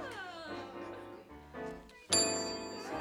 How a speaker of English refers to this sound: Oh, good. Somebody's just made it. Oh, made what? Every time you hear a bell, it means that some angel's just gotten his wings.